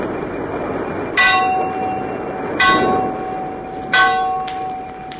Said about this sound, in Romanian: O ceață groasă se pogorâse deasupra mării, încât nu mai vedeai nici la 10 pași înainte. Sunetul clopotului mare de pe catarg răzbătea din când în când prin valurile de ceață.